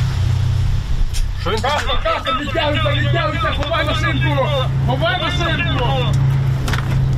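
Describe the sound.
A heavy tank engine drones steadily in the background during a fairly serious battle near Bakhmut, Ukraine, a deep continuous low rumble lasting the whole stretch while a man talks over it.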